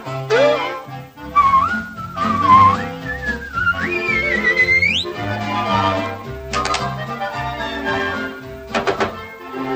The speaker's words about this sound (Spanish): dame un silbidito, dame un silbidito. No olvides de silbar, no basta soplar.